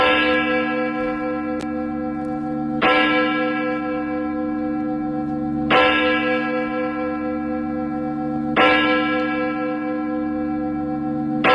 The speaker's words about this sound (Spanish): Estamos escuchando unas campanas, como dice Juan Carlos, de las que se oyen en los pueblos y que siguen presentes.